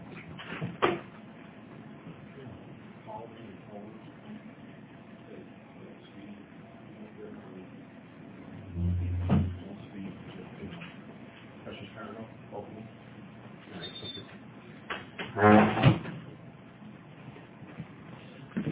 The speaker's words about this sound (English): It's one loud door when you move it and close it.